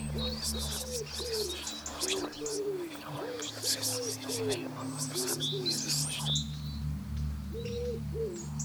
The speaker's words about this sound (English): And so it was one spring morning, birds are twittering, trees coming into soft green leaf and so on